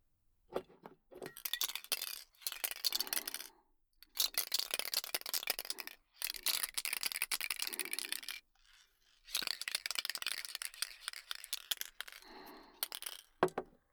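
A spray paint can used to paint a plastic model kit hisses in five long, bright bursts of a few seconds each, separated by short pauses, after a few quick clicks and rattles at the start. No one speaks.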